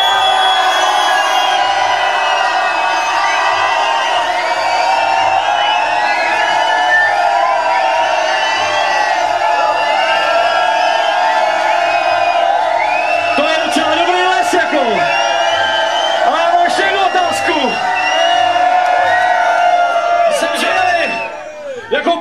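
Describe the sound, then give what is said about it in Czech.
A large concert audience shouts and cheers continuously to vote for a band, a dense wall of overlapping voices with whoops and yells rising above it, loud and sustained throughout before briefly dipping near the end. “Hlasujte svým křikem, zapalovačem a rukama nad hlavou s tím, co máte.”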